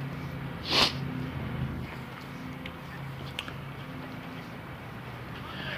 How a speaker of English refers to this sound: Two guys with leaf blowers. They're doing a good job, though.